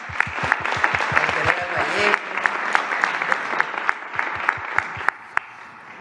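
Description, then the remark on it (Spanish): In Mexico, an audience applauds the Secretariat of National Defense and the military engineers who built the Felipe Ángeles International Airport (AIFA). The applause is steady and rhythmic, with dozens of sharp claps falling in unison at a brisk, even pace over a dense wash of crowd noise, loud throughout. “Un aplauso a Defensa, a los ingenieros militares.”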